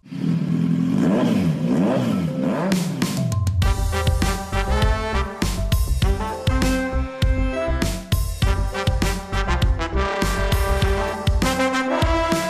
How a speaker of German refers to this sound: Lang ist es her, dass ich diesen Jingle live und in Farbe quasi gehört habe